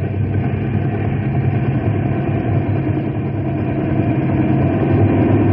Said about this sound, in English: Wind's sure tossing that copter around.